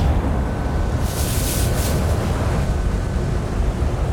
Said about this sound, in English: And as he says that, you guys all hear a sizzle, a crackle in the air, as all of a sudden...